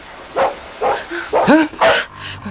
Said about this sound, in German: begann zu bellen und gebärdete sich wie rasend.